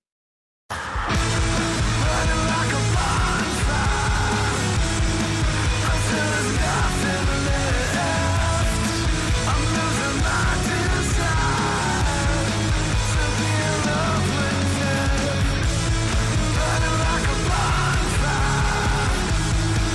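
A loud, dense rock track with distorted guitars, pounding drums and a hoarse, shouted male vocal, driving steadily at full volume after a brief moment of silence at the start.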